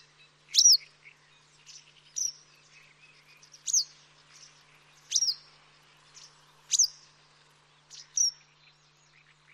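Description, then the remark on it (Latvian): A western yellow wagtail gives six sharp, high chirping calls at a steady pace, about one every one and a half seconds, each clear, with no talking over them. “Pagājušā gada sākumā izsludinātajā zīmējumu konkursā piedalījās vairāk nekā 300 cilvēku, un tāds pats skaits gada laikā portālā Dabas dati dalījās savos vērojumos par dzelteno cielavu.”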